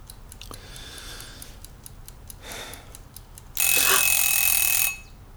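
household object, egg timer ringing

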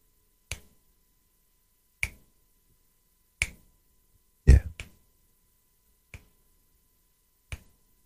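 human body sound, finger snapping

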